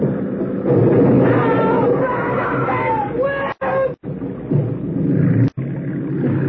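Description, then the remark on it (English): A motorboat roars loudly as it rams into another boat carrying people, including women and children, a chaotic rush of engine noise and churning water with high cries mixed in, cut by a few abrupt breaks. “you ran down that boat.”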